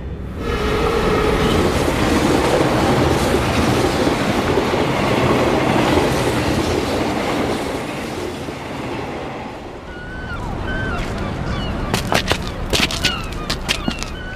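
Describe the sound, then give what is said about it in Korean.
A train rumbles steadily past at a train station with a Ferris wheel in its square, wheels clattering loud for several seconds, then fading as sharp metallic clacks and squeals ring out near the end. “아, 기차역광장 한복판에 대관람차라니.”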